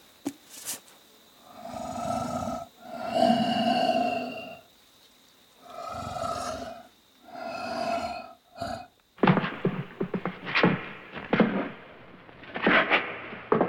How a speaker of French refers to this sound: Et après, je peux rajouter une petite respi. Pour la respiration, j'ai mon petit tube à trous.